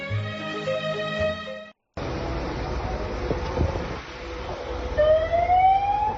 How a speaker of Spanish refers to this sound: Es el sonido de las grúas y las máquinas retirando los coches incrustados entre el lodo ya compacto en el barranco del Pollo, donde están trabajando a día de hoy los bomberos del Grupo de Emergencia Supramunicipal de Muros,